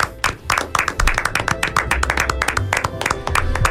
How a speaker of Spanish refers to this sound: fuerte aplauso, qué introducción más bonita, por favor.